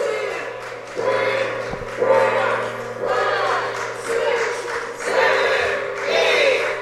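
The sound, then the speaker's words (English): The Kia of Covington "Happy Kia gong" struck ten times by a girl to mark a donation, at a steady pace of roughly one hit per second, each loud stroke ringing into a shimmering metallic wash that overlaps the next, with faint voices behind. “She is happy and healthy, and she's going to bang that gong for us 10 times.”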